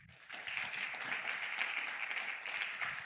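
A crowd applauds the introduced co-founder and Chief Product Officer of Mindful Mamas, a wellness app for mothers, steadily, a dense wash of many hands clapping at an even, moderately loud level that holds for a few seconds without talking over it.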